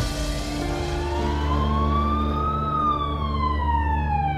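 police car sirens arriving

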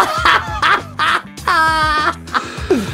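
turkey gobble

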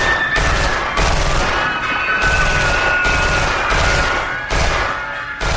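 automatic weapon gunfire

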